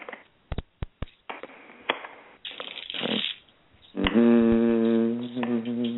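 household object, shuffling playing cards

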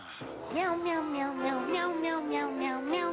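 animal, cat meowing

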